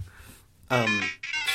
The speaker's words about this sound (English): That's actually a ringtone on my phone. I'm waiting for it to go off again.